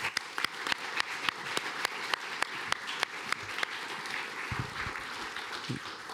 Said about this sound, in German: Nochmal einen kräftigen Applaus für die Jugendlichen und ein großes Dankeschön von mir.